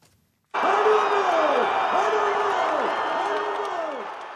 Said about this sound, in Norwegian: Enorme folkemasser over hele Brasil eksploderte i jubel.